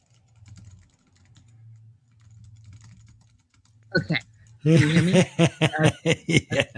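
Faint, scattered clicking of typing on a computer keyboard over a low hum, then loud bursts of snickering laughter take over and mostly mask the keys.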